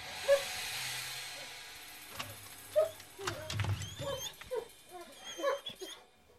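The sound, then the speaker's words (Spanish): Dogs whimper and let out short, high yips as they greet their owner, with thin whines recurring over several seconds amid soft shuffling, moderately loud. “Luego de saludar a sus perros”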